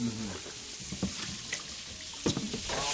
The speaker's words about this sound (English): And just over here, we have the organ meats from the duck cooking up in a pan. Yeah, kind of spitting out of it.